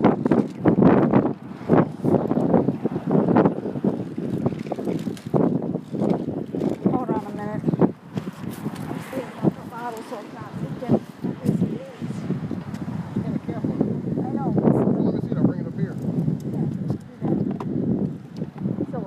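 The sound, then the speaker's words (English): Wind buffets the microphone outdoors on a warm day in low, steady gusts of rumbling noise, running beneath people talking for the whole stretch. “It's a little windy, but it's nice out.”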